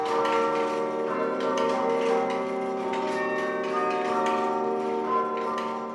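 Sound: bells ringing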